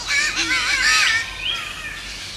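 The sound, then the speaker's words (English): A spotted catbird gives a harsh, wailing, cat-like call, loud, with strained rising and falling tones over about two seconds and no talking. “Next, the crazy thing that sounds like a cat getting strangled is a spotted catbird.”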